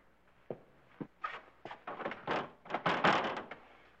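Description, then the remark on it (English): Someone tries a locked door, rattling and jiggling it in a run of sharp clunks and thumps that grow busier toward the end, with no voices. “The door's locked.”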